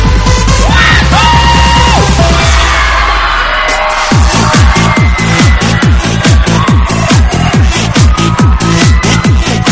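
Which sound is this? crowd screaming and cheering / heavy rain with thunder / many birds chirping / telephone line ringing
crowd screaming and cheering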